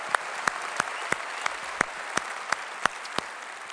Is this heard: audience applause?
yes